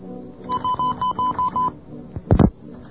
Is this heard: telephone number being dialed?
yes